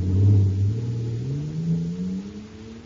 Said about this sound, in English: Wow! Listen to that fire control jet car go now. It's supercharged, that's what. Supercharged with super fuel.